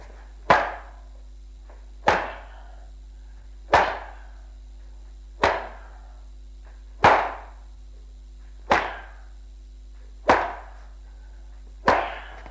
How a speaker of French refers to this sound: Quitte sa ceinture et la frappe sur tout le corps.